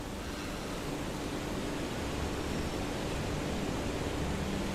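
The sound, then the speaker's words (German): A steady, broad roar of rushing water from a waterfall fills the whole stretch without pause. It stays even and fairly soft throughout, with no voices. “Ihr genießt noch für einen Moment das beruhigende Geräusch des Wassers und die wohltuende Frische.”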